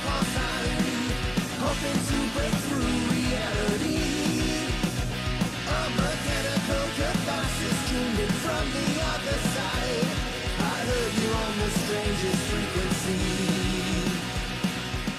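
A loud, dense rock song plays steadily throughout, with a sung lead vocal carrying the melody over driving guitars and drums at a constant full volume.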